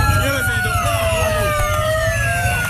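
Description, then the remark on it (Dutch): Several wailing sirens from ambulances and police cars overlap loudly, their pitches sliding and sweeping over a low rumble of traffic as emergency vehicles rush to the Ramblas, a busy street in Barcelona, Spain, where a van drove into pedestrians. “Je hoort ambulances en politieauto's die met spoed naar de Ramblas rijden.”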